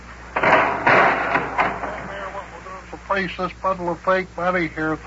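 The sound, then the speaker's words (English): An office door opens as visitors come in from the cold, with a clattering, rattling burst lasting a couple of seconds, then voices begin talking as it settles. “Just open the door.”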